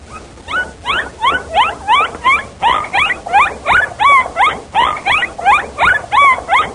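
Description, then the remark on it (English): A bottlenose dolphin calls repeatedly in quick succession, a series of loud, rising and falling squeaky whistles and chirps in a steady rhythm, with no voices present. “It was a recording of a bottlenose dolphin.”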